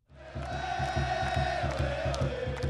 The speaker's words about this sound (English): Here at Quest Field, where the Sounders play, the place has the feel of a World Cup soccer final. Every seat is sold out, and the cheering is deafening.